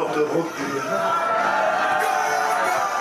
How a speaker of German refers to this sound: Jetzt sausen die Wagen dahin in Höchstgeschwindigkeit, die durchaus beachtlich ist für dieses Holzgerät. In Tonis Gesicht ein verschmitztes Lächeln, das zum fröhlichen Grinsen wird, wenn die Fahrgäste anfangen zu jubeln.